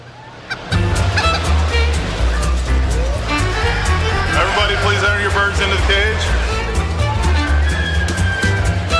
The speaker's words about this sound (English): These roosters are clearing their throats and warming up to blast out their famous vocalization in hopes of winning top honors.